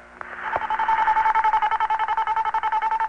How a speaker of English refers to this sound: So they came up with a special tone to keep you on the line. In France, after you've dialed and your call is going through the French network, you'll hear this tone.